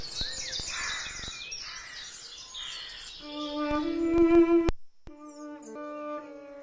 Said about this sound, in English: And the funny thing was, it didn't come from high up in a tree. It seemed near the ground. Bless you, miss. That's the nightingale. So, he's come back after all these years. Your music's brought him back, miss.